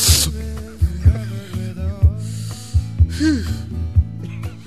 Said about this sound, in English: When people like to drink margaritas, I prefer to sniff something out of a margarita bowl. Excuse me for one moment.